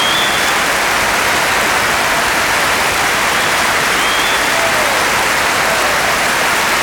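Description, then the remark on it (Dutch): A crowd applauds steadily and loudly, a dense wash of many hands clapping that holds at an even level for about seven seconds with no voices over it. “Geef ze nog een enorm applaus, dames en heren.”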